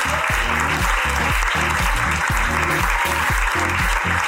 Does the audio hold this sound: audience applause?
yes